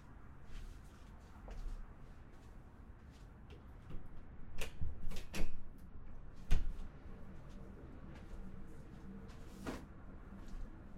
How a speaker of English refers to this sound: I needed to make sure that door was locked.